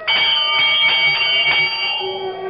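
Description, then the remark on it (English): A door bell at the great door of Carrig Cleaner is pulled and rings loudly in a quick series of jangling peals whose bright metallic tones overlap, then linger and slowly fade. No one speaks. “I reach out and pull the bell.”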